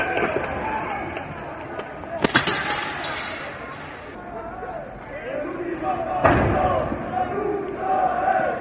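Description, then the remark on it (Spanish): Sharp, loud impacts of stones thrown by about 20 people hitting the windows of a Banco Santander branch until the glass breaks, a cluster of cracking hits followed by another heavy strike, over the continuous murmur and shouts of a crowd during riots on Calle Vitoria in the Gamonal neighbourhood. “Son los golpes, lo que acaban de escuchar, de las piedras que lanzaron unas 20 personas a una sede del Banco Santander hasta destrozar los cristales de las ventanas”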